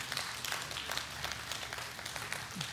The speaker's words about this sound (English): Not very many are clapping in the balcony, but I've always believed you were closer to God than the rest of us, but I can see you. I just can't tell who you are.